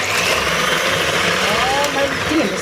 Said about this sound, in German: Schnell. Was ist zu schnell? Mein Mixer.